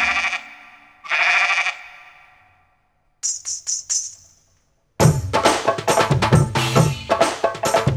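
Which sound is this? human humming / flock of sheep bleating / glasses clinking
flock of sheep bleating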